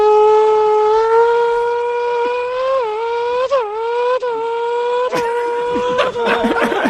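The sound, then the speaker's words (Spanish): A voice imitates a Formula 1 car starting, holding a loud, buzzing, high-pitched engine whine that dips briefly a few times like gear changes, then rises and turns rougher toward the end. “A ver cómo suena un coche de Fórmula 1 desentrenado. Y bueno, yo siempre hago ahí un poquito la salida, ¿no?”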